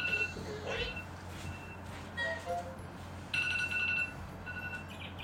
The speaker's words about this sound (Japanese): パパのアラームが鳴ってる。